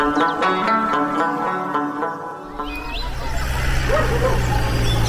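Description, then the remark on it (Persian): A dog barks several times in quick succession, loud, before the barking gives way to a rougher, noisier stretch of background sound. “ما سگو سخت میترسیم. میخو طرف ما بده رئیس. نکو چی میکنی؟ تو مرا سرش میخورانی؟ باید از شرید سگ برا خلاص کنی.”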